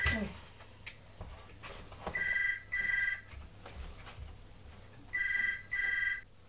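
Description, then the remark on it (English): A telephone rings with a call from the hospital, in two double bursts, each pair of bright electronic trills separated by a short pause, fairly loud, with faint background noise between the rings. “It was the hospital ringing, Mummy.”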